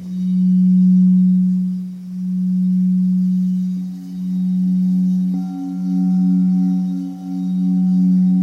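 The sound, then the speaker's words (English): Sustained singing bowl tones hum steadily, a low resonant drone with higher overtones joining midway, the volume swelling and dipping in slow, regular pulsations. No voices. “Notice the pulsations of the bowls.”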